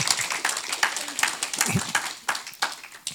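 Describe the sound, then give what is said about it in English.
A crowd applauds steadily, many overlapping claps forming a dense, bright patter that holds at a moderate level for a few seconds, with faint voices murmuring underneath. “And if we could just give her one more round of applause for the great job she did.”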